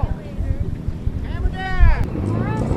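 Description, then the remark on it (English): Low, steady fishing boat engines rumble as boats leave wharves along the South Shore early on a Monday morning for the opening day of lobster season, with wind buffeting the microphone, while higher rising and falling tones arc briefly above the droning motors. “Hundreds of boats and thousands of fishermen set out early Monday morning from wharves along the South Shore for the opening day of lobster season.”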